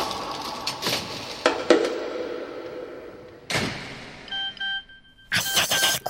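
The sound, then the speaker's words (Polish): A mobile phone starts ringing near the end, a short series of electronic tone pulses, after scattered thumps and rustling bursts; the ringtone is moderately loud and no one speaks. “Kurczę, nie włączyłam telefonu. Ciekawe, od kogo to?”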